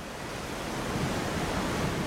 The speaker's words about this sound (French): Et le vent. Là, c'est le raco qui souffle.